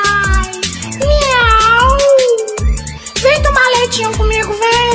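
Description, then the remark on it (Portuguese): A voice imitates a cat's meowing in long, wavering, sing-song cries, loud, over a steady thumping musical beat that runs throughout. “Do gato é igual, miau, miau.”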